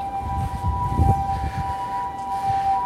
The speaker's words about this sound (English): No, I think that's a... No, that's an ambulance, yeah.